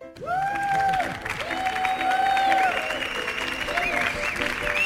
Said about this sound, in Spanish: Fuerte el aplauso para Marc Lenders.